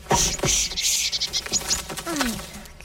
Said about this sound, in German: Guckt mal, da kommt ein kleiner Vogel und will eure Samen aufpicken.